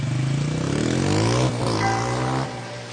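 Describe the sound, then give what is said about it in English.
A small Honda Spree motorcycle engine revs loudly as it sets off in the rain, its buzzing pitch climbing in one long rise, dipping briefly, then surging again before easing off. No one speaks. “I ran back inside, grabbed the letter, stuck it in my pocket so it wouldn't get wet, and jumped on Dee Dee's Honda Spree motorcycle and headed to her to tell her the good news.”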